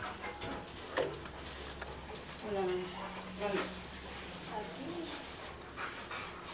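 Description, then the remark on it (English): Dogs whimper in a few short, high, wavering whines spread across several seconds, set against a busy, noisy background with some panting and rustling. “So many dogs here, folks.”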